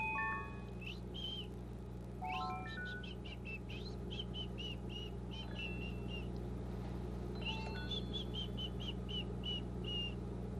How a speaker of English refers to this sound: Do you like to swing, yellow bird? Do you? Oh, I wish I could just open up the cage and let yellow bird out.